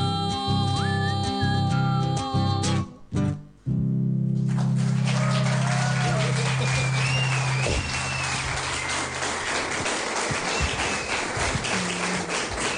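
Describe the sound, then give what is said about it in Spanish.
A song ends at an evening performance at Librería Don Cipriano, broadcast on Radio Provincia de Buenos Aires, and after a brief pause the crowd breaks into steady, loud applause that runs to the end, with several sharp rising whistles cutting through the clapping. “Aplausos, sí, aplausos.”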